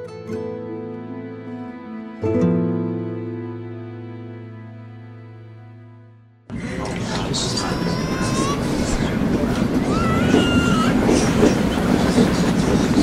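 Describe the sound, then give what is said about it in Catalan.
After a sustained, fading musical chord, train wagons bound for Mauthausen start rolling loudly and steadily over the rails, with a continuous rumble and occasional high metallic wheel squeals. “Viatgem a través dels miralls de memòria per escoltar el neguit i el patiment que es va viure dins dels vagons de tren cap a Mauthausen.”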